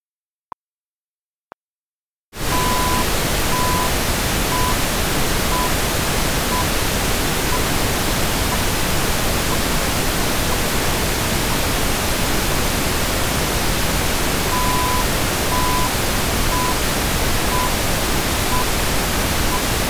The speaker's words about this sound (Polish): Następnie dodam szum maskujący i powtórzę całą sekwencję dwukrotnie. Zwróć uwagę na poziom postrzeganej głośności tonu maskowanego i czy jesteś w stanie usłyszeć wszystkie jego 12 próbek.